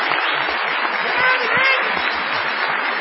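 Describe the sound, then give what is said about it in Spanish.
An audience at the Sodre auditorium in Uruguay gives an ovation for Gillespie, a dense, steady ovation, many hands clapping together at an even, fairly loud level for the whole stretch, with no voices rising above it. “No menos injustificada será la ovación tributada a Gillespie.”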